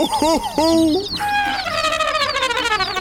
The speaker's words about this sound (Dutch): Kijk nou! Er lopen allemaal kuikentjes in mijn tuin. En overal liggen lege eierdoppen.